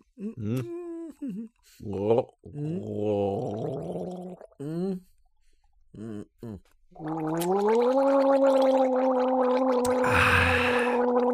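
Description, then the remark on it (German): Someone gargles and gulps down a herbal liqueur, a Lidl house brand made with 44 or 45 herbs, making wobbling, voiced throat sounds in short bursts, then one long, loud bubbling gargle that swells toward the end. “Und das lassen wir uns jetzt die Kehle runterlaufen, nicht weil es schmeckt, nicht weil es gut für den Körper ist, sondern einfach weil es sein muss.”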